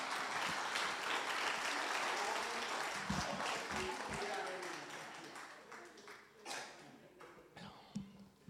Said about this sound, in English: Amen. That was one clap. If you're going to clap, everybody clap together.